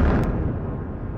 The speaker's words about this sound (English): A loud explosion was heard as Israel bombed central Beirut at around midnight. The building hit was near the Lebanese parliament, the first Israeli airstrike to hit the heart of the capital in this conflict.